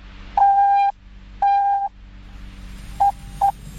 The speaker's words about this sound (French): Nous sommes alors le 24 mai 1844 et le message est « What has God through ?» soit « Qu'est-ce que Dieu a fait ?» qu'on peut aussi traduire par « Ce que Dieu a forgé ?» Voici d'ailleurs le premier message en Morse.